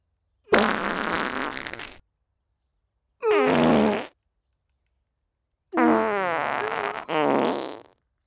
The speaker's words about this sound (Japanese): 私のおならがお好きなんでしょ？おなら臭ムンムンの臭い空気、たっぷり堪能くださいね。